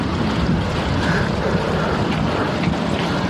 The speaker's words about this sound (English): Hey, we're getting ready to go outside. All right. Crazy windy.